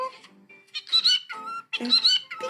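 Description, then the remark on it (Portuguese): A parakeet named Piquirito squawks out its own name in a shrill, squeaky voice, with two louder bursts about a second apart, with no people talking. “O nome dele é Piquirito e ele é um periquito. E ele fala o nome dele.”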